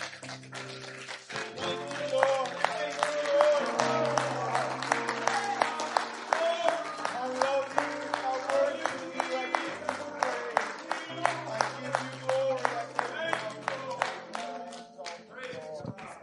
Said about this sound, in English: Let's give that hand clap of praise to the Lord Jesus. He's the only one.